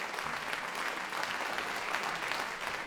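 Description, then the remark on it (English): Sustained audience applause at the end of a BBC Symphony Orchestra concert at its Maida Vale home in northwest London, recorded for the Genius of Mozart season: a dense steady patter of many hands clapping at an even level throughout, with no voices on top. “And so, as the applause continues, it's goodbye from the Symphony Orchestra's home here in Maida Vale in northwest London.”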